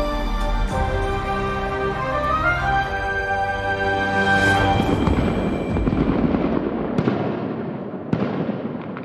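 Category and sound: sound effect, fireworks explosion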